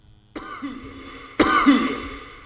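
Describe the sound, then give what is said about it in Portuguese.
Two harsh coughs, the first at about a third of a second and the second near the middle, each with a rough throaty tail, then a brief onset of a third at the very end. “É o melô da tosse, né?”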